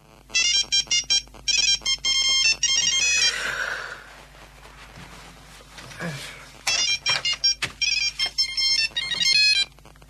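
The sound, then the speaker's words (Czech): A mobile phone ringtone plays loudly in short, bright melodic bursts, pausing briefly midway before the repeating tune resumes, with faint background noise between phrases. “Mobilni telefon, on me pesmom budi.”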